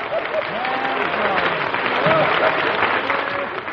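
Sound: audience birthday applause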